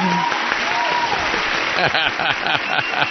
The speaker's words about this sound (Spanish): Y el ganador es Fernando Ruiz por improvisación y acción. Fuerte el aplauso.